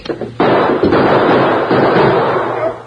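gunshot

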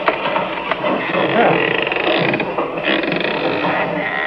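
door creaking open

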